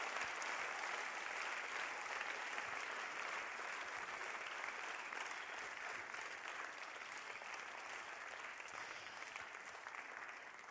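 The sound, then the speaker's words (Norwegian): Steady audience applause for a group as they take their seats, a dense wash of many hands clapping at an even level throughout, with no voices standing out. “men gi de gjerne en applaus i det de setter seg.”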